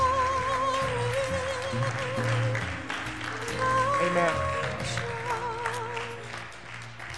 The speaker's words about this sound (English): Can we applaud him today?